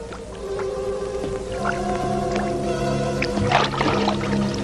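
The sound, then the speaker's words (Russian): Water pours and splashes steadily for several seconds, a full, bubbling wash of sound layered with low, sustained tonal hums that give it an underwater feel. No voices are heard. “Вода. Не бойся.”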